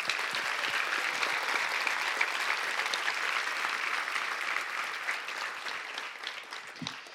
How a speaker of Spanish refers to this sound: Dale un aplauso, por favor.